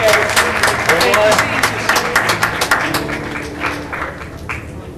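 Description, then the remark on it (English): A crowd claps steadily with sharp, dense hand claps and some voices calling out over them, the applause thinning and fading somewhat toward the end. “Won't you give a hand clap?”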